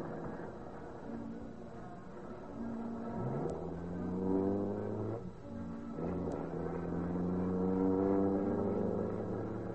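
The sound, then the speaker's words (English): A car coasts down a hill to start its engine: the engine rumbles steadily, then catches and revs up, its pitch climbing in rising surges that stay loud, with no one talking. “Just let it coast down the hill and start that way. No point in using up the battery for nothing.”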